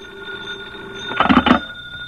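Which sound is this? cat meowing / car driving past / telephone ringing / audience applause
telephone ringing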